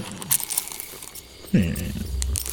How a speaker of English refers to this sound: Each of the four sides of your stone holds a rune from the four elements. What you do is roll the stone, like you would roll a dice. All right. These don't roll as well as regular dice. Because they aren't dice.